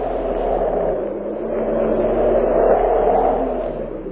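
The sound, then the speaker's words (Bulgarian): A steady, rushing roar of storm wind, thick and low with a deep rumbling undertone, swelling slightly and then easing over a few seconds, with no voices. “Ето я бурята, която от сутринта заплашваше да се разрази.”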